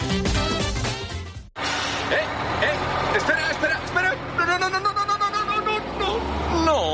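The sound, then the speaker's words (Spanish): A bus engine rumbles and revs as the bus pulls away from the stop, leaving behind someone who missed it by a few seconds, with a brief air-brake hiss and a steady low drone, while indistinct voices chatter over it. “Esa cara que se te queda al perder el autobús por unos segunditos de nada”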